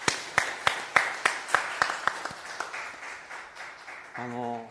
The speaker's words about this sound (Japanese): ご健康を許された方は、はい、はい、本当に皆さんも拍手を持ってここまで導かれたことを喜びたいと思います。おめでとうございます。